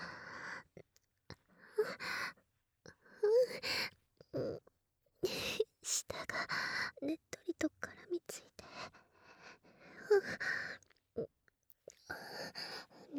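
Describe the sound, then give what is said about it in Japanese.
Wet licking sounds of a tongue right against the ear, slurping and clicking in irregular bursts, mixed with soft whispery breaths at intimate, quiet volume. “いやらしい音が、チュルチュルルって響いていますわ。”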